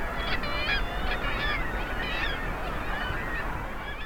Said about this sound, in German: Wer über die Ecke lugt, der entdeckt plötzlich Tausende von Vögeln. Die Luft ist voll von startenden und landenden Tieren. Auf jedem Sims stehen schwarz- und weiß gefiederte Exemplare.